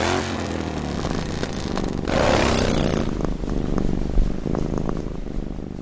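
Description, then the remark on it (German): A cat purrs, a steady low rumbling vibration that pulses with each breath, loud and continuous throughout with no talking. “Wahrscheinlich schnurren Katzen auch, um sich selbst zu heilen.”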